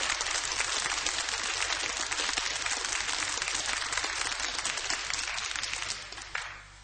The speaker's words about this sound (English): We'd like to have you give a nice rousing round of applause to Mr. Harold White. Harold White on drums.